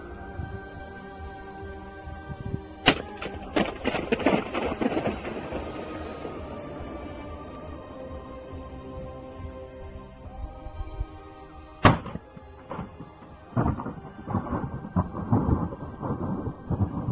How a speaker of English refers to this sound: Here is a video of a guy blowing a balloon inside a nuclear power plant. When slowed down, it sounds just like thunder.